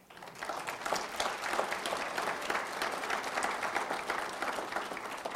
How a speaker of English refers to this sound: In fact, I played in the high school band, a tenor saxophone, so watching this band today was really a high honor. I want to applaud them again. They were magnificent.